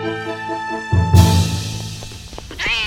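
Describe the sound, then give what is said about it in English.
A brief cat meow rises and falls near the end, following sustained electronic tones and a sudden noisy, rumbling burst; no one speaks. “Kitty! Come back!”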